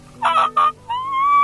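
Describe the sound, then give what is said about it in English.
A young turkey's kee-kee whistle, a call used in fall hunting of young birds, is loudly imitated on a turkey call by pressing air up into it: two short, high whistled notes, then a longer, steadier rising whistle, with no talking. “One of the most used calls in the fall if you're hunting young birds is the kiki or the whistle.”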